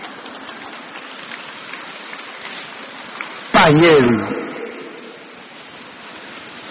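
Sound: audience applause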